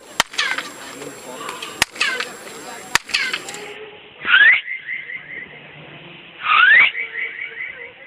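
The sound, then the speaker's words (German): Tour guides demonstrate the echo off a pyramid: three sharp claps, each followed by a chirping echo, then two loud whistles several seconds apart, each trailing off into a ringing, bird-like echo in a quiet open space. “Ja, also hierzu haben wir tatsächlich zwei Klangbeispiele von Touristenführern gefunden, die einmal mit Klatschen und einmal mit Pfeifen eben diesen Echo-Effekt demonstrieren.”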